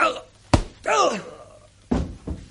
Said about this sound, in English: you nearly knocked his block off.